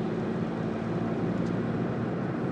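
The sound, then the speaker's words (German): A steady low engine hum and road rumble from inside a small car cruising along behind trucks, constant throughout with no voices. “Ach ja, ich tucker hier gerade so schön LKW hinterher.”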